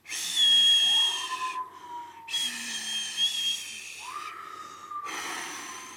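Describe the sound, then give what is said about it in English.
Gusts of wind rush and hiss in surging waves, with thin whistling tones sliding up and down as the air forces through gaps in windows, fading briefly between bursts. “The sound of the wind whipping through my windows.”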